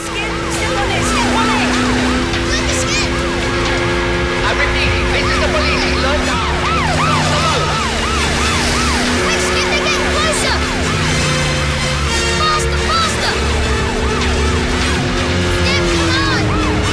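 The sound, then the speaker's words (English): A police boat's siren wails continuously in rapid rising and falling sweeps, loud, over the steady low roar of a boat engine speeding along a canal as the police boat chases a speedboat. “A police boat. This is the police.”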